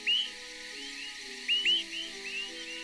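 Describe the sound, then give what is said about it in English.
Swainson's thrush nocturnal flight calls given while migrating at night: three short, clear upslurred whistles, two close together, plus a fainter fourth, sounding over a steady low background hum with no voices. “Like many nocturnal travelers, the Swainson's thrush avoids predators by flying at night, because hawks migrate during the day.”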